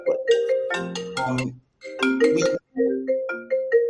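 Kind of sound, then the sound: signal or alarm, phone ringtone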